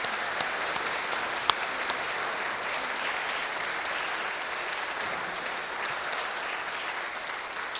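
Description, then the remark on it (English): A church audience applauds the choir and an ensemble steadily for about eight seconds, a dense, even patter of many hands clapping at constant loudness with a few sharper claps standing out early on. “And a round of applause for you all.”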